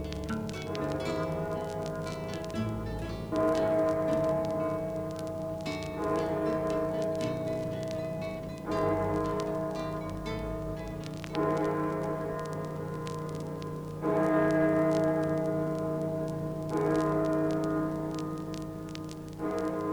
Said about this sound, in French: Ding dong, ding dong, der Glockenturm ist dumm. Ding dong, ding dong, einfach bim bom.